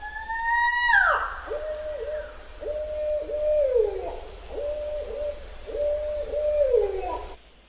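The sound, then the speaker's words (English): A barred owl gives one loud, piercing whistle shriek that rises and then drops off sharply, followed by a rhythmic run of hoarse hooting notes. The sound is clear, with no talking. “This is the barred owl whistle shriek.”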